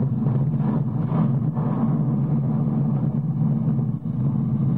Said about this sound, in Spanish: La explosión del volcán destruye la isla por completo.